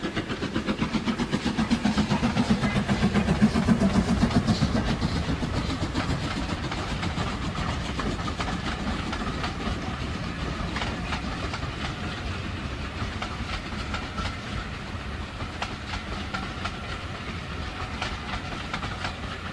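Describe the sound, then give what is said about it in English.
A train of the SVR heritage railway rumbles past, its wheels clattering in a steady clickety-clack rhythm, loudest in the first few seconds, then holding a continuous roar as the carriages keep rolling. “told you we might get interrupted, and that was one of the trains of the SVR.”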